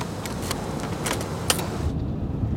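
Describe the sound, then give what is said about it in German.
A car's steady rumble with a few light clicks and rattles, its hissing road noise fading out partway through as the vehicle comes to rest, leaving a low idle hum. “Dann steht das Auto.”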